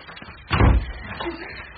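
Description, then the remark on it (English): A door is pushed shut with a single heavy thud, followed moments later by a faint, short click like a lock turning. “Lock the door.”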